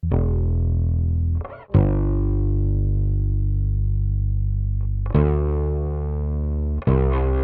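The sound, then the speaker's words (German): Two layered distorted guitar tracks play together, one through a B15N tube-amplifier emulation set with distortion, little bass and mids: thick tones sustaining loud chords with a brief break and fresh attacks near the middle and end, dense and saturated with no voices. “Verzerrung, wenig Bässe, mitten, im Prinzip das, was ich brauchte, um die zweite Spur anzureichern. Zusammen klingen die beiden wie folgt.”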